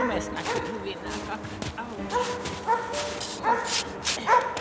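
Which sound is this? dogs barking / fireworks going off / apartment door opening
dogs barking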